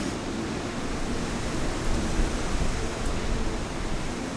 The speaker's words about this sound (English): And the wind, you can see the rain kind of coming across in sheets like it does in coastal storms. Yes, this isn't, we're not living on a piece of dry land here.